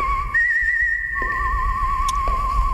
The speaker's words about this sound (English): Whistling, by the way, was done by … out of Milwaukee.